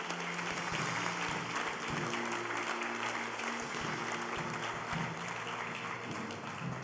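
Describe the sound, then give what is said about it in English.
A church audience claps for the Lord at a morning worship service in sustained, dense applause, many hands blending into a steady wash of noise at an even loudness for several seconds, with faint low tones sounding beneath. “Can we give the Lord a clap off for this morning?”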